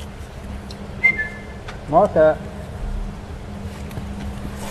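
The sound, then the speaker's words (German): A short whistle from a zookeeper calling king penguins rings out over a steady outdoor hum, early on a February morning at about 5°C in front of a zoo vivarium, followed by two brief, stronger bursts of tonal calls or voices, set against constant low background noise. “Der da gepfiffen hat, war der Zollitierpfleger”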